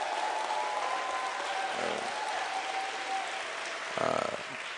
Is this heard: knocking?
no